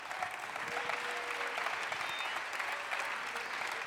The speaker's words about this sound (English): You ought to clap your hands right now.